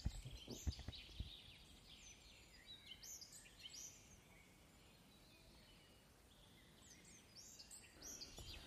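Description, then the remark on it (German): Birds chirping and twittering outdoors, a steady scatter of overlapping high calls from several directions, fairly soft, with a few sharp knocks near the start and no voices. “In dem Sinne hören wir noch ein bisschen die Vögelchen zu.”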